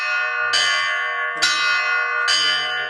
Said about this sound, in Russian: нажали на педальку и увидели, как из колокола рождается звук.